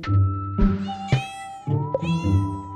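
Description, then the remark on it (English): A kitten meows repeatedly, about three or four long, drawn-out, whiny cries following one another with brief gaps, fairly loud and with no talking. “So I had two kittens.”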